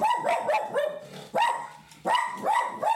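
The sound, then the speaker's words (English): A dog indoors barks repeatedly and loudly at a dog walking by the window, short sharp barks coming in quick bursts with brief pauses between them. “You don't even know what you're barking at this point.”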